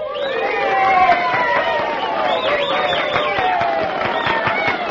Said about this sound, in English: Well, you have clearly shown by your applause that Beppo is the winner.